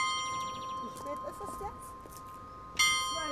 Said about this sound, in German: Seit etwas mehr als 20 Jahren ist in dem wundervollen Ensemble aus historischen und für das Bergische Land so typischen Fachwerkhäusern ein Industriemuseum untergebracht. Von einem der Gebäude ertönt der Glockenschlag der alten, schmucken Werksuhr.